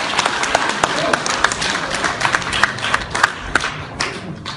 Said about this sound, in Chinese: 接下来请您欣赏相声《女招待》，表演者孔云龙、李云杰，掌声有请。